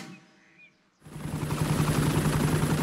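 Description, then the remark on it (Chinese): After a second of quiet, a loud, steady helicopter rotor begins, a fast rhythmic chopping thump with a low hum and broad whooshing noise, continuing without talk. It is Miss Rabbit's helicopter rescuing Daddy Pig, who was stuck in mud. “兔小姐的直升机把猪爸爸给救了出来。”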